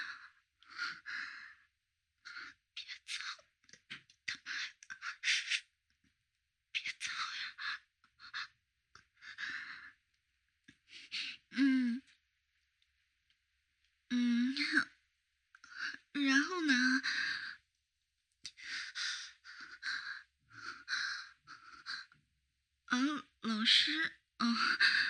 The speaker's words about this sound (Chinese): 老师刚刚晚上在做运动呢，对，这会儿有点喘，在喘气呢。